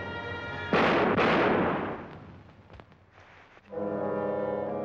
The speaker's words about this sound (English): So the composer is sitting in the dubbing room saying, you know, let's lower the volume of the gunshots.